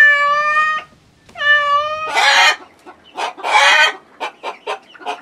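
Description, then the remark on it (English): A cat gives two clear, drawn-out meows, then a hen takes over with a couple of loud, raspy squawks and a quick run of short, clipped clucks. No one speaks. “Yes, where are they? Ask the hen and the cat.”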